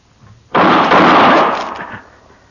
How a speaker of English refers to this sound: How'd you know he was going to shoot, Matt? Well, I just sensed it, I guess.